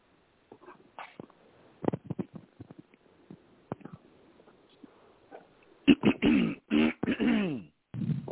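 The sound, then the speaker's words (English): A man clears his throat several times, loud raspy bursts coming one after another, preceded by faint scattered clicks and mouth noises. “I got to clear my throat on that one.”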